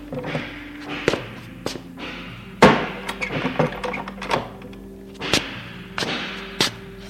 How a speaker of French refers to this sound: Il entend une porte qui claque.